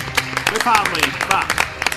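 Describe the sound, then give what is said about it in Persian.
A crowd claps steadily with dense overlapping hand claps, loud, while a few voices call out or cheer underneath, applauding a singer being introduced as a guest on a radio programme. “تشویق کنید خواننده محترم رو،”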